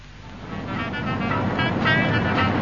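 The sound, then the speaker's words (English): A car drives along a road on the way to Devon: a steady rumble of engine and tyre noise that swells gradually louder over a few seconds, with no voices. “Darling, are you planning to drive all the way to Devon non-stop?”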